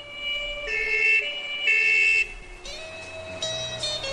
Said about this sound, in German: Das Geheul der Sirenen bahnt uns den Weg ins Krankenhaus.